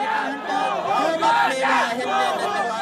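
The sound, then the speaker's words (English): A large crowd of street protesters in Sri Lanka chants "Go home, Gota. Gota, go home" against President Gotabaya Rajapaksa, in loud, rhythmic unison, many voices rising and falling in repeated shouted phrases that swell roughly every second, with a constant roar of voices underneath. “They're screaming, "Go home, Gota. Gota, go home."”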